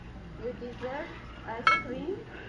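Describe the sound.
A single sharp, ringing clink of dishes or cutlery as desserts and drinks are served during a talk at a hotel, cutting through a steady murmur of people talking in the background, with faint softer clatter around it.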